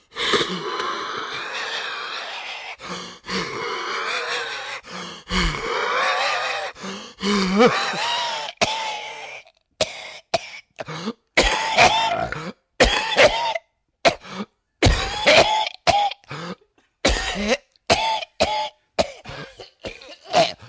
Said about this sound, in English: He's joining in now, leading him on to greater heights. This is an enormous cough. The audience is joining in.